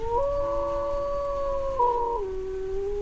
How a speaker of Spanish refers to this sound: Hablamos, claro, del lobo ibérico.